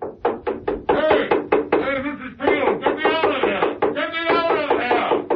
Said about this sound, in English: Mrs. Peel looked down at the floor. There was a pause. And then, the sound of Steed's umbrella banging beneath.